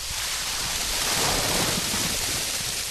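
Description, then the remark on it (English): A steady, dense rush of wet, semi-rotten unsold produce such as pumpkin, squash, apples, peppers, lettuce, potatoes and pineapples pouring out of a dump truck, loud, with a continuous sloshing roar and no pauses or voices. “At first, a trickle of liquid and small bits of produce drip from the truck. And then...”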